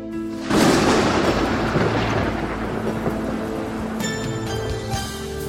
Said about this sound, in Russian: когда весенний первый гром, как бы резвяся играя, грохочет в небе голубом. Гремят раскаты молодые, вот дождик брызнул, пыль летит, повисли перлы дождевые, и солнце нити золотит.